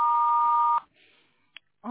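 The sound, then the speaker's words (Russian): A single steady electronic voicemail beep, mid-pitched and loud, sounds after an answering-machine message, holds for under a second and then cuts off, followed by a short quiet gap, a faint click, and a dispatcher's voice beginning to leave a message. “Если вы хотите оставить ему голосовое сообщение, пожалуйста, говорите после звукового сигнала.”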